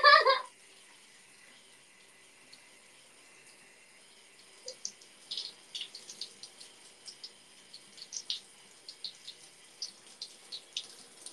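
A brief loud splash opens, then water runs steadily with a soft, constant hiss, like a tap filling a bath, while irregular trickles and splashy bursts patter over it toward the end.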